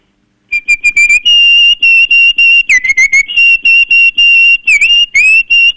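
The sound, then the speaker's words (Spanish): A person whistles an imitation of a cardinal's call: loud, high, pure tones in quick repeated chirps and longer held notes, with a few downward-sliding swoops, no talking. “Te voy a hacer un cardenal después. A ver, un cardenal.”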